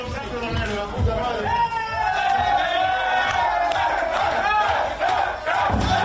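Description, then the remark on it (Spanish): Football players cheer and shout in celebration in the locker room in Turin over the elimination of Cristiano Ronaldo, a loud continuous crowd of whooping voices with rhythmic chanting and stamping beats underneath, steady throughout. “Aplaudían por la eliminación de Cristiano Ronaldo y también, por supuesto, lo celebraban así en el vestuario de Turín.”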